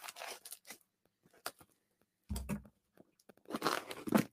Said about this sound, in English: All right. A lot of box tape here. Getting my bang for the buck on box tape.